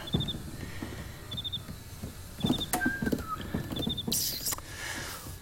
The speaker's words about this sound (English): And thank you for the chirping crickets. Quiet, serene.